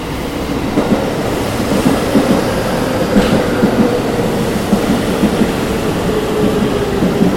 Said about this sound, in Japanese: まもなく6番線に大垣行きが到着します。黄色い線までお下がりください。この列車は8両編成です。この列車は各駅に停車します。